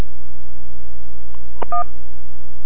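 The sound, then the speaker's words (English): A single short telephone keypad tone beeps once, a key press in an Internet technical support automated phone menu, over a steady electrical hum on a narrow phone-quality line, preceded by a faint click. “If you're calling for technical support, press 1.”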